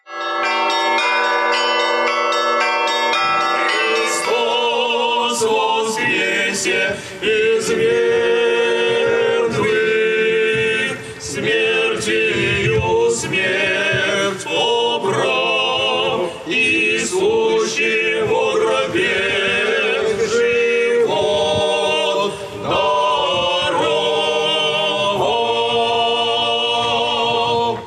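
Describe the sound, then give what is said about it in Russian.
Festive Russian church bells, rung by master bell-ringers in the heart of a city for the Easter celebration, peal continuously, many bells of different pitches struck in lively overlapping rhythms, loud, with ringing tones sustaining throughout and no voices. “в сердце города встречал ликующий звон колоколов.”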